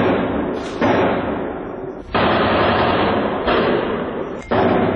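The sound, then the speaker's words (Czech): Three explosions near the Stade de France in northeast Paris, captured on an eyewitness's mobile phone: a few sharp, heavy bangs at irregular intervals punctuate a constant loud, dense roar, all with a muffled, narrow-band quality and no talking. “Na severoistoku gradu u okolini stadiona Francuska, na kome se okupilo 80.000 gledalaca, odjeknule su 3 eksplozije.”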